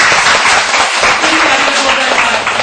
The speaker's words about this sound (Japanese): さあもう一度神様に感謝の拍手を捧げましょう。